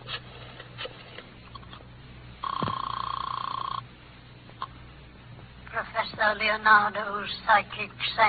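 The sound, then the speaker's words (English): A single steady telephone ring lasting just over a second, on a call to Professor Leonardo's psychic sanctuary, stands out against a low hum. Afterwards a person begins talking, with muffled voices before the ring. “Oh, want to use the phone?”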